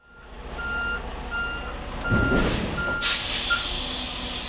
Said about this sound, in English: Monday, a refrigerated truck backed up to the Feeding South Dakota building.